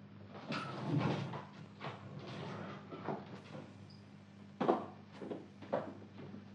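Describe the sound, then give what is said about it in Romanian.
The door of a room is eased open a little, with soft scraping and a couple of sharper clicks or knocks near the end, over a low steady hum, with no talking. “Crapă puțin ușa.”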